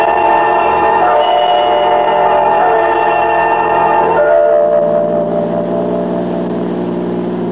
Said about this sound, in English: I drove Alan Carlin's car like a reckless idiot, taking every curve as if it was a race course.